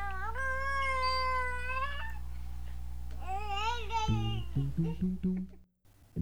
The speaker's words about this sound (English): Audio warning. You may or may not hear kids screaming and yelling in the background, or us screaming or yelling at them to keep it together.